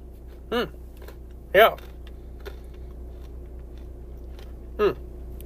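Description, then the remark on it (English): Three sharp crunches from someone chewing a thin crisp toffee Score chocolate bar, spaced irregularly over a faint steady hum, with a louder crunch in the middle. “I apologize if you can hear me crunching, but it's very crunchy.”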